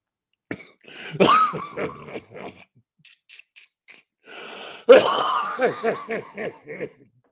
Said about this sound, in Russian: Я прошу прощения за... Прошу прощения за кашель.